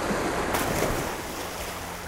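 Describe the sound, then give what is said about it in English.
Rough sea waves surge and crash continuously with a steady roar during a storm, wind rushing over the water, loud throughout, with no voices. “A storm comes, and the prince falls into the sea.”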